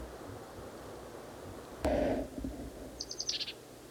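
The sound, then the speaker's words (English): A bird at least 40 feet away calls with a short, low, hoarse hoot, followed about a second later by a quick run of five or six high, thin chirps over a steady hiss of background noise. “Same bird as last cut.”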